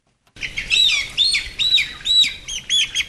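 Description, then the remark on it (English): A dense chorus of young hens in a shed on an egg farm at King Lake, just north of Melbourne, Australia, chirping and peeping, high-pitched calls overlapping in quick repeated bursts with a steady low rumble beneath; no one speaks. “enters a shed full of young hens on his egg farm at King Lake, just north of Melbourne.”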